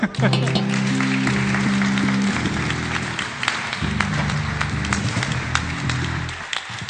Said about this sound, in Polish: Chciałbym, żebyście dali im oklaski.